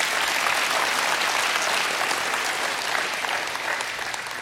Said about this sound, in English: That's what, yeah, we can clap for that.